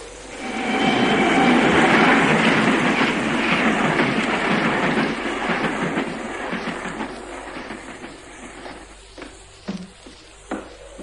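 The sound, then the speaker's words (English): A train rolls loudly along the rails, a heavy rumbling roar that swells early and then gradually fades, ending in a few sharp, isolated clanks, as the train is switched onto a siding. “and now I'm going to switch that ghost train onto the siding.”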